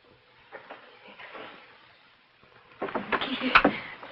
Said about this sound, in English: She pulls at the door desperately.